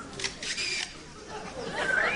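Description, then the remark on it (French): A lyrebird mimics the shutters of different camera models: a few sharp mechanical clicks and a brief whirring burst, then a thin, rising whistle near the end. “Différents modèles.”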